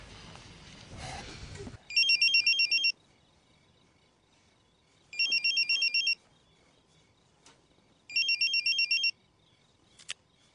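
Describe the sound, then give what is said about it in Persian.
A home phone rings three times with a call from a man's mother, each ring a bright, warbling electronic trill about a second long, separated by short pauses. There is a brief rush of noise before the first ring and a click at the end. “گوشیش زنگ میخوره، مادرشه. گوشی خونه زنگ میخوره.”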